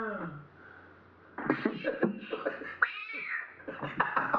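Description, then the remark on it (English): A voice imitates a cat, giving a drawn-out meow and then a run of short, choppy meowing bursts, loud, with some background noise. “Oh, he's playing a cat.”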